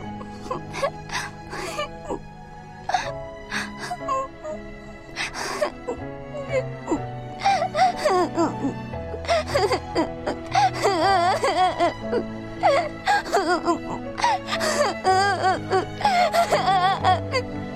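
Emotional crying with shaky, wavering whimpers and moaning sobs, continuous, rising in intensity with breathy catches over a low background hum.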